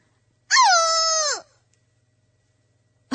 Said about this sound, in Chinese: 格鲁普太太发出了一声恼怒的尖叫。